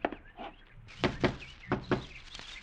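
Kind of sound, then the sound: household object, knocking on a door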